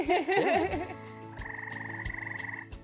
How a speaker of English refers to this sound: When it's the rainy season, so many frogs, so many males. Frogs attract females by the whistles, by the noises, and the females always choose which one male frog is good singer. And good singer male frogs attract so many females.